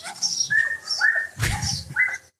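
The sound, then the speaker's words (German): A small, Chihuahua-sized dog on the neighbouring property yaps in a quick series of four or five high-pitched barks, fairly steady in rhythm, with no talking over it. “Das ist die Fußhupe auf dem Nachbargrundstück.”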